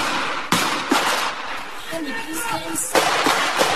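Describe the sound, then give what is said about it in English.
Several sharp, loud gunshot cracks ring out at irregular intervals over a constant rumbling background, with raised voices faintly audible between the bursts of gunfire, recorded by residents during a nighttime police shootout with the Tsarnaev brothers in Watertown. “The battle recorded by terrified residents.”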